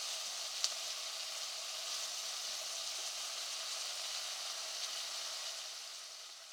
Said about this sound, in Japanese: いい感じになってきた。あとは鍋に煮汁の調味料を流し入れてっと。